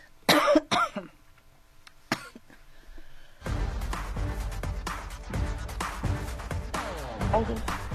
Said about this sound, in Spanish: Perdón la tos, es que no ando muy bien de la garganta